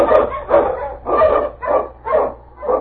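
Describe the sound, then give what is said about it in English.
Sled dogs (huskies) bark loudly, about six sharp, evenly spaced barks in quick succession, with no talking and a faint low rumble underneath, in the opening of the 1945 radio show Challenge of the Yukon. “Untie on your huskies!”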